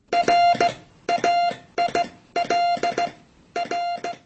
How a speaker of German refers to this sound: So klang die Übermittlung von Nachrichten mit einem Telegrafen.